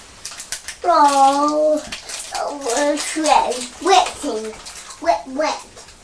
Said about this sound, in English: it looks like it's really raining heavily now.